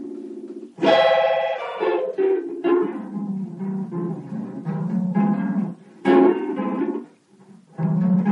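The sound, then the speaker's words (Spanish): A bright, buzzy tonal melody in uneven bursts with short gaps, its pitch warping and smearing as it grows more distorted, like a worn tape; no one speaks. “observen cómo va, tomen nota de cómo va distorsionándose el sonido.”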